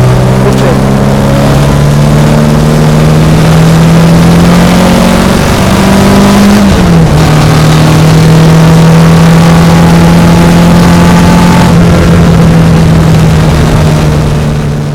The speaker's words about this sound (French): Quelle mélodie pour terminer ce reportage que le moteur 2 litres de cette Alfa Romeo coupé Berton de 1967.